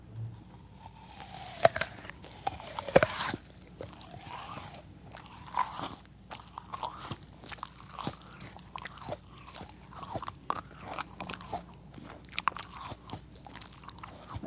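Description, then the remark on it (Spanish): Chewing and crunching of food, with irregular crisp bites and wet mastication sounds repeating steadily throughout, loud with no talking. “Al masticar, no solo se tritura la comida, sino que la saliva lleva sustancias que preparan el alimento para ser procesado.”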